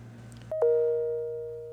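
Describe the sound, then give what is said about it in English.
A two-note ding-dong doorbell chime rings once, the second lower tone following quickly and fading slowly over a steady low hum, with no one speaking. “There goes the bell. I'll get it.”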